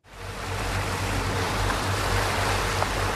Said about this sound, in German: Angetrieben von ihren zwei 380 PS Motoren stampft die 19 Meter lange MS Nordwind vor der ostfriesischen Küste durch die grauen Wellen der Nordsee. Windstärke 5 bis 6, kabbelige Wellen, spritzende Gischt.